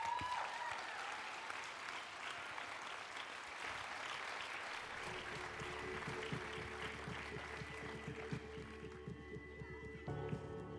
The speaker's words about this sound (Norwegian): Dette gleder vi oss over. Gi henne en applaus.